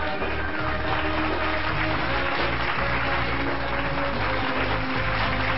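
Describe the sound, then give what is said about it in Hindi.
Sustained audience applause welcoming a guest onto a show, a dense, steady wash of many hands clapping at an even loudness for several seconds, with no voices standing out. “जोरदार तालियों के साथ उनका स्वागत कीजिए।”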